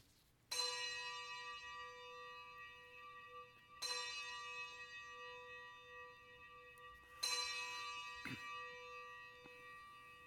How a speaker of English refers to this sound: Let us ring the bells of remembrance.